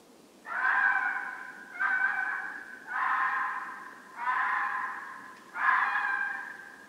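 A fox gives five drawn-out, harsh screams at night in a steady rhythm, each lasting about a second with short pauses between. The wailing calls are loud and high-pitched, with no talking.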